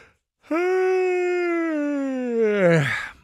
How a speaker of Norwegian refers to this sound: Den gjespen der var faktisk veldig bra timer, fordi at det er akkurat det man gjør. Man gjør ikke drit. Du sitter og gjesper, kjeder deg, og tenker, det er jo en nyttig forvaltning av en fin, fin lørdag.